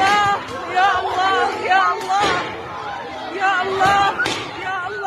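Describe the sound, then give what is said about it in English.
Panicked crowd shouting, voices overlapping and strained, a woman crying 'Oh God, oh God', while sharp heavy blows land every couple of seconds amid the loud, chaotic yelling: Israeli police beating Palestinians with batons on the floor of the Al-Aqsa Mosque in Jerusalem, recorded on a cell phone. “This is cell phone footage where you see Israeli police using batons, and they've repeatedly beat Palestinians who are on the floor of the mosque.”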